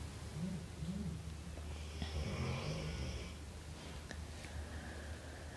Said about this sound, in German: Ja, und das, was du im Hintergrund hörst, ist nicht das Knurren vom Wolf, sondern das Schnarchen von unserem Hund, die schon ganz entspannt da liegt, weil sie weiß, da geht keine Gefahr aus.